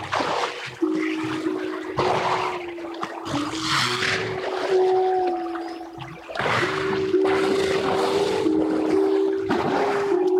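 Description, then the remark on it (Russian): Walruses singing during the mating season, recorded in nature: long, steady tonal notes held low and unbroken, with brighter bell-like pulses and watery noise bursting through at intervals, loud and continuous with no talking. “Причем особенно яркую музыкальность моржей проявляется во время брачного периода, когда они начинают реально петь.”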